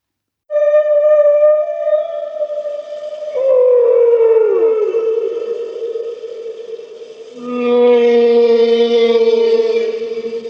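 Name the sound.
humpback whale song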